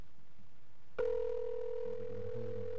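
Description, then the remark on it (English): After a moment of quiet, a telephone line starts ringing on an outgoing call placed during a live radio broadcast: a steady electronic tone that begins abruptly and holds clearly through the end, with no voices. “We're ringing now.”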